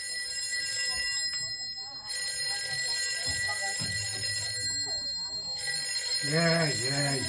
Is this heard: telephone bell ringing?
yes